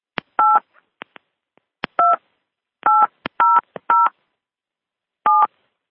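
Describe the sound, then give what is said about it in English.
A series of short dual-pitched touch-tone beeps from a phone keypad as a PIN is entered for a conference call, about seven tones pressed at an uneven pace, each preceded by a sharp click of the button, with silence between. “Please enter your PIN followed by pound.”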